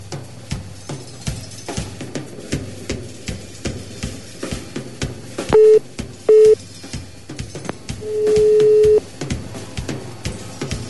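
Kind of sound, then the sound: signal or alarm, telephone busy signal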